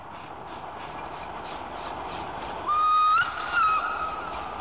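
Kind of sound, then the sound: vehicle, train passing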